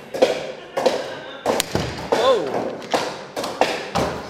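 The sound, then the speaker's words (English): A hammer knocks a washer down onto the end of an iron rivet set in a drilled hole, with about eight sharp strikes in an uneven but steady rhythm, and a voice is faintly audible between blows. “The first thing is we drill a hole, then we put the, we call it a nail, but it's an iron rivet in the hole. He's knocking the washer on the end.”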